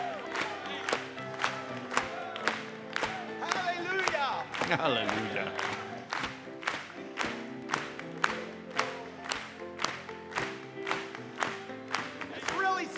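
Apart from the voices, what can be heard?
audience applauding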